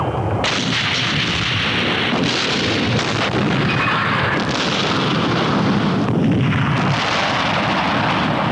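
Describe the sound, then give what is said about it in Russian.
A continuous, heavy barrage of artillery firing fragmentation shells fills the air, dense booming blasts overlapping into a roaring, rumbling wall of explosions with no voices audible. “Ориентир 3. Осколочным. Огонь!”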